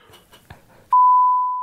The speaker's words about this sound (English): Not that you'll hear it. I'll beep it out.